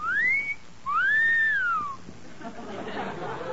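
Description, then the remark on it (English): Wind whistles through an old house in two long, eerie swoops, each rising and then falling in pitch, and gives way to a softer, breathy rush of air. No voices. “Hey, kid, just listen to the wind whistle through that old haunted house.”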